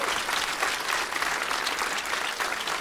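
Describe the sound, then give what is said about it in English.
An audience at The Comedy Attic comedy club claps steadily for the club's owner, a dense, crackling wash of many hands applauding at an even volume for a few seconds with no one speaking over it. “And let's have a round of applause for the owner of this great comedy club, The Comedy Attic.”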